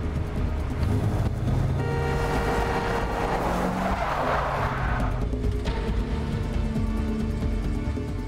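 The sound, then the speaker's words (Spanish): A car engine roars loudly as tires squeal in a long, sustained skid while a car is forced off the road by another car, less than a kilometre from the driver's home. The screeching tone wavers for several seconds before the noise settles into a rougher engine rumble. No one speaks. “Le dijo a las autoridades que a menos de un kilómetro de su casa, un auto la sacó del camino.”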